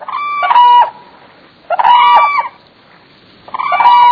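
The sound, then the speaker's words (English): Whooping cranes trumpet loudly in three separate bursts, each under a second, with short pauses between, along the Platte River in central Nebraska. The calls are clear, and no one talks. “The pilot and two observers are searching for whooping cranes.”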